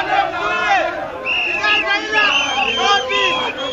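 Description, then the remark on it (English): A large crowd at an opposition rally in Kenya shouts and chants in unison to express outrage, many voices rising and falling in loud, rhythmic bursts with an angry, agitated edge, continuous throughout. “Sometimes it's to express outrage, like at this opposition rally in Kenya earlier this year.”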